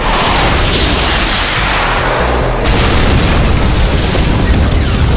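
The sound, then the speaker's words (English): A massive explosion of a Soviet helicopter gunship roars loud, a dense rumbling blast that keeps churning for several seconds with a fresh surge of crackling debris midway, no voices. “The chin bubble of Kuranami's helicopter smudged suddenly black with the explosion of the Soviet craft.”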